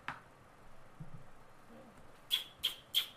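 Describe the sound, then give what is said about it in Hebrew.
A house sparrow gives three short, sharp chirps in quick succession near the end, clear, after a stretch of quiet background noise. “זה הדרור.”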